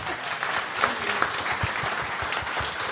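An audience applauds steadily, a dense patter of many hands clapping at a fairly even, moderate loudness for the whole stretch, with no voices standing out.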